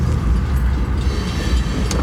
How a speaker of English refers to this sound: There's a train here, so we get to hear and enjoy the sound of the train while I'm talking.